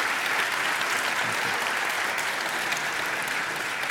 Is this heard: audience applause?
yes